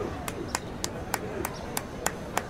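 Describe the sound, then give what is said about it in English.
A steady run of about eight sharp hand claps as a boy claps his hands between his legs as a talent show trick, evenly spaced, each a crisp slap over a low, noisy background with no talking. “I can clap my hands between my legs.”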